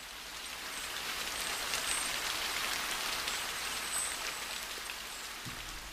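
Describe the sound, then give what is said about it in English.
Steady rain patters on cement, stone and a plastic raincoat, a dense hiss of countless drops with occasional sharper taps, continuous, with no voices. “The rain noises were on cement, on stone, on my plastic mac.”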